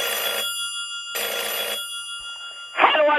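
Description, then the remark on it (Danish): A telephone rings in two long electronic bursts separated by a pause, bright and steady, in a call to P3's Børnetelefonen in a Danish radio satire. A brief clatter follows as the call seems to be picked up. “Og i det program figurerede altså Brian igen, der i starten af 90'erne konstant ringede til P3's udgave af Børnetelefonen og fik hele Danmark til at sige, de skulle have nogen bank.”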